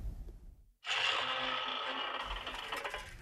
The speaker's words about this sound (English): When we got to the Rialto Bridge, the small wicket gate and the main gates were open, and we were ordered to lock and barricade both gates. That small wicker gate. The creak of that gate.